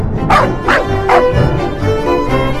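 Dogs bark in quick, repeated bursts, loud, with a few yips mixed in over a busy background, as John Jacob Astor frees them, including his dogs Airedale and Kitty, from the kennels beside the third-class galley on F deck of the Titanic. No one speaks.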